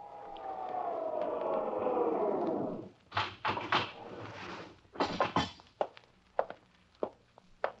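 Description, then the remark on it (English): An elevator hums in and its whine slides down in pitch as it stops, then heavy clunks and rattles follow as the door opens, trailing into a few scattered knocks and steps. “Wait until you hear the elevator, then use the stairs.”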